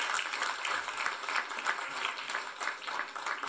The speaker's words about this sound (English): Yeah, thank you. Round of applause.